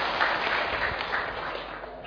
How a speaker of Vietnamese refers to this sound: Thì hôm nay đạo tràng của chúng ta được diễm phúc cung đón thầy Thích Minh Niệm đã trở về. Xin toàn thể đại chúng cho một tràng pháo tay để cung đón thầy.